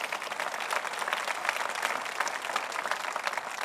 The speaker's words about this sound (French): Applaudissez pour vrai si vous êtes pour applaudir.